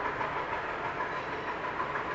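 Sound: train passing on rails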